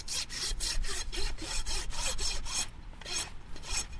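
A farrier trims donkey hooves with a rasp: steady, rhythmic scraping strokes, roughly three per second, with a short pause partway through before the rasping resumes. No voices.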